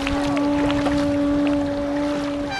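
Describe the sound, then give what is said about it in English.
The motor of a boat taking swimmers to Alcatraz around 8 a.m. drones steadily, its even hum running unbroken under a wash of wind and water noise, with no one speaking. “Around 8 a.m., the PathStar swimmers board a boat to Alcatraz.”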